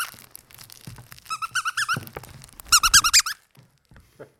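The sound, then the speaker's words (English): A squeaky toy's squeaker sounds in two quick bursts of shrill, wavering squeaks, about half a dozen each, the second run louder than the first, with no talking. “Do you have a squeaker?”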